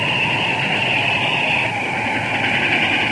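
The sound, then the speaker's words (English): A train headed for Valley Ho rolls past with a steady, loud roar and hiss that holds evenly for a few seconds, a bright whine riding over the low rumble, with no voices. “Looks like a train headed for Valley Ho.”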